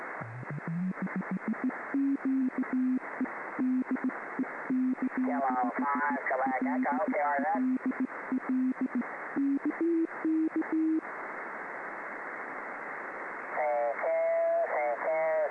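A steady Morse code tone keys on and off in quick dots and dashes over a band-limited radio channel with background hiss, while warbling, garbled transmissions overlap at times.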